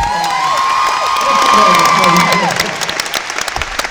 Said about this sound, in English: So I would like for you guys to make sure you applaud just as loudly every time he stands up.